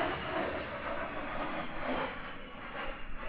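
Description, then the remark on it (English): An A-10 Warthog military jet rumbles overhead in a steady, broad roar that holds fairly even throughout, with no voices. “As John's excitement grows at seeing the military planes above”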